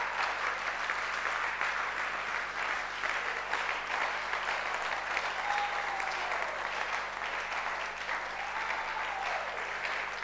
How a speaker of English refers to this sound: I want you to clap properly. Clap properly. If you are clapping, clap.